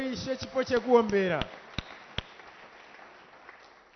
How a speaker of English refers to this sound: Aywa, let's just give a clap offering to the Lord.